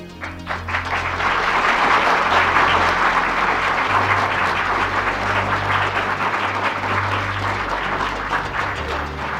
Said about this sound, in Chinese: 想公布中华民国大总统投票结果，曹君仲山先生当选大总统，鼓掌。